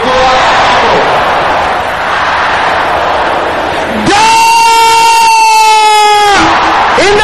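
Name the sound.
audience shouting loudly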